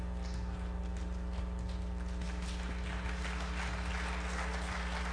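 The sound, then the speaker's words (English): A few soft, unhurried claps tap out a sparse golf-clap rhythm over a steady low hum, with no voices, a little golf clap after a pastor says his church's offerings have tripled every week. “Little golf clap for you.”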